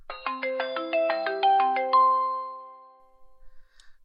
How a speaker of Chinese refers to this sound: 哎呀，你们怎么又打电话过来？都说了不接。